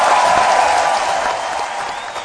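A burst of applause, dense and steady clapping from a group that fills the whole stretch at a constant loud level, easing only slightly toward the end. No one speaks over it.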